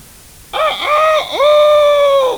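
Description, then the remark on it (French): A voice imitates a farmyard rooster's crow, a loud, drawn-out two-part call with a rising start and a long sustained high note, heard alone. “Le coq.”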